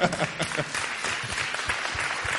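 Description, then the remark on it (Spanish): Sustained applause from an audience at the end of a presentation, a dense patter of many hands clapping at steady volume throughout, with no pauses and no voices standing out. “Pues nada, vale el aplauso como pregunta.”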